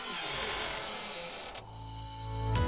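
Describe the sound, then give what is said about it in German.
A door to a book department creaks open with a drawn-out, grinding squeal that rises into a strained, tonal groan near the end, fairly loud, with no voices. “Denn hinter dieser Tür hier ist die Bücherwürmchenabteilung.”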